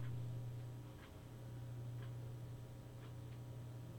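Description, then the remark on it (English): A clock ticks softly, roughly once per second, its faint clicks sitting over a steady low electrical hum. “I can hear the clock ticking. Tick tock, tick tock.”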